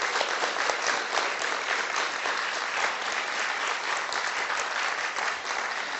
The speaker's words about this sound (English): My mother, who is here with us today. You could give her a round of applause.